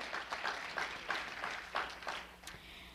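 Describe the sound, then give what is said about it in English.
A crowd claps in a steady burst of applause lasting a few seconds, many hands overlapping into a dense, bright patter with occasional sharper claps standing out. The audience is giving itself a hand clap of praise. “Can you give yourself a hand clap of praise?”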